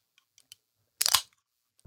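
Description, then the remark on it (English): A Red Bull energy drink can cracked open: a few faint ticks from handling, then a sharp, loud snap that runs into a brief fizzing hiss, with no voices. “Pop open a Red that Bull.”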